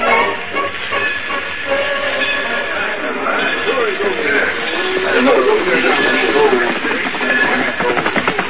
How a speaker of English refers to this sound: We'll ride right alongside the train.